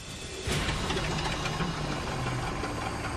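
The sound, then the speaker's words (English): An aircraft propeller engine starts up abruptly after a brief quiet moment, then runs loud and steady with a dense, rumbling drone and a faint rhythmic knock throughout, while its engine RPM and propeller governor are checked for adjustment. “This seems to be need a little bit more adjustment to do engine RPMs.”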